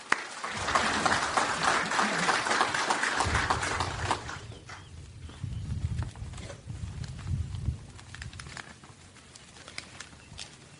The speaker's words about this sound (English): I'd like to give a round of applause to all that helped put this thing together, the VFW, the Ladies Auxiliary, the Boy Scouts, JROTC. Just a fantastic job putting this thing together. So I'd like to give them a round of applause, please.